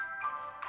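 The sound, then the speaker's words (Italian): A few bright, tinkling music-box notes ring out, a brief alarm-clock melody with sustained chiming tones, fairly soft and heard on its own without any voices. “L'odore di caffè, un rumore di teglia, si sente un carillon, è il suono della sveglia.”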